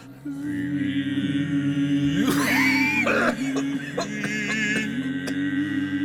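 A voice holds a steady sung note in sacred chant while harsh coughing bursts from another singer break in near the middle, followed by a few shorter, sharp coughs, all fairly loud.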